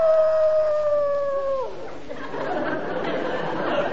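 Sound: dog howling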